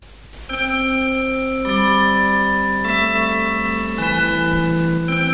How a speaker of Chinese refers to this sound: 小朋友，你听，这是什么钟声啊？啊，是圣诞钟声，快来，我们来欢迎主耶稣。